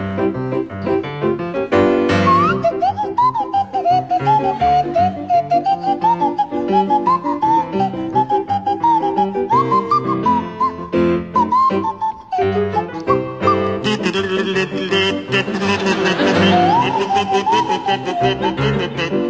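A kazoo and a swanee whistle play a jaunty tune together, the whistle's sliding, wavering pitch weaving over the buzzy kazoo, loud and continuous for the whole stretch with no talking.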